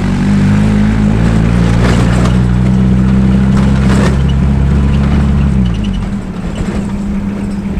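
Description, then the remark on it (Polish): A car with practically no suspension and no radio drones loudly from inside the vehicle, everything rattling and knocking as it drives over rough ground; the engine note drops away near the end. “A tutaj nie ma radia żadnego, bo nie ma potrzeby w ogóle, wiesz, instalowania żadnych urządzeń grających, bo ten samochód sam gra. Bez amortyzacji praktycznie. Wszystko lata, nie?”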